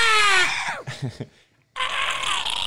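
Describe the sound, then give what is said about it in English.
A voice imitates a screaming eagle call: a harsh, high shriek sliding downward, a few choppy bursts, a brief pause, then a long raspy, hissing screech. “Yeah, that's an eagle.”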